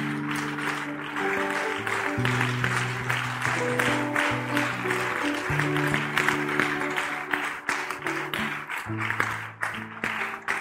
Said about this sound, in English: The reason we're clapping and we're excited is because we remember what it meant to us when we stood here.